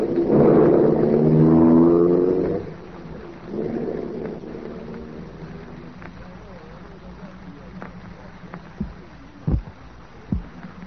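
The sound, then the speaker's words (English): A black sedan's engine is started at night and roars loudly, revving up as the car is slammed into gear, then settles into a lower drone as the car pulls away and fades, leaving a faint rumble and a few sharp clicks. “I got into the car, switched on the ignition, slammed the car into gear, and cut into the darkness ahead.”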